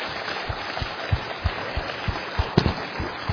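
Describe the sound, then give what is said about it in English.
An audience applauds two men steadily, a dense wash of clapping with some heavier claps landing in a fairly regular beat throughout. No one speaks. “Let's give both these men a round of applause.”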